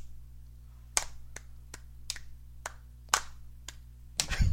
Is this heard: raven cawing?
no